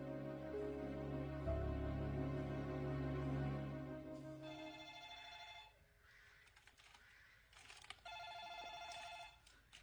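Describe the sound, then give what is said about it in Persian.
A telephone rings twice in steady, buzzing bursts with a pause between them, clear, following a loud, low rumbling passage at the start. No one speaks. “من برمیدارم. خرابش نکن. حق برقراری ارتباط تلفنی با منه.”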